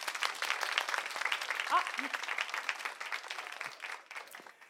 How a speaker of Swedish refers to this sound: Tack. Ge dem en till applåd.